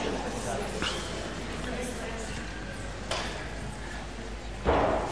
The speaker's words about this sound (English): could we close those middle doors? Sorry, thanks.